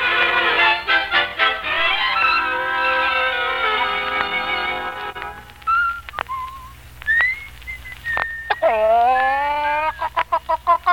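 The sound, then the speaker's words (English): A rooster named Omar, waking up, crows loudly in a long, drawn-out call, then breaks into short scattered clucks and squawks before a final rising crow, with no one talking. “Ah, you've woken up at last, Rooster.”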